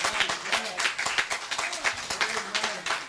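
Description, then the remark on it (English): A crowd at Mount Olive Baptist Church claps for the choir in loud, dense applause, steady and unbroken for a few seconds, with scattered voices mixed into the clapping. “Let's give that choir a hand clap of praise.”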